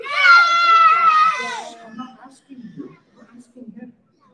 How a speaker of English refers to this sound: Have Sakina, whoever's yelling over here.